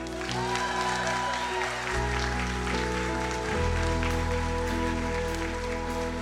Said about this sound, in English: You guys cheer really loud for Brittany.